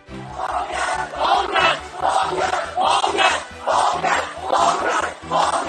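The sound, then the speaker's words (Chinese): A large crowd of family members of arrested protesters, gathered outside Kwai Chung police station in Hong Kong, chants a slogan demanding the release of the protesters. Loud rhythmic shouts repeat roughly every second with a steady beat, voices merging into a dense roar throughout. “而据多家的媒体在网上的视频直播显示，几百名被捕者的家属到示威者被关押的葵涌警署外聚集，要求警方释放示威者，他们高喊是放人的口号。”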